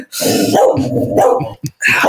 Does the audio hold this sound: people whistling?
no